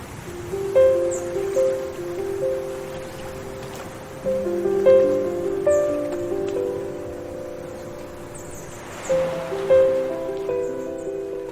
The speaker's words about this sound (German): also man hört ja die Vögel im Hintergrund, das Meer